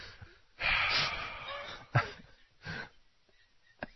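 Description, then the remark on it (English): A coughing fit: a long raspy cough opens, followed by several sharper, irregularly spaced hacks with wheezy, gasping breaths between them. No one speaks. “Coughing fit.”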